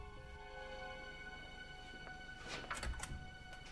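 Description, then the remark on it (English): Heavy glass doors at a clinic entrance are pushed open with a short scraping rush and a dull thunk near the end, set against a steady electrical hum. “She pushes back the heavy glass doors and immediately notices that Meyer is not in her bed”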